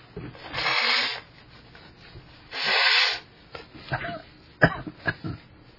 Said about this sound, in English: I'm just trying to take shortcuts because I know I need to blow my nose here, I think.